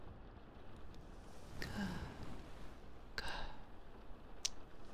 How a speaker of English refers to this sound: The sound of my breathing.